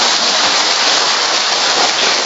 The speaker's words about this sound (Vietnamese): Rồi vỗ tay một tràng pháo tay hoan hô thường dân.